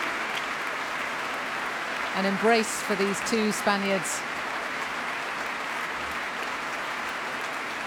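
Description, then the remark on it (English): Steady, sustained applause at a BBC Prom concert as the orchestra's strings rise to their feet and are applauded by the dancers and Antonio Marquez comes forward, a dense even clatter of many hands, while a man's voice speaks briefly over it near the middle. “A harp in the orchestra too, and now the strings rising to their feet and being applauded by the dancers.”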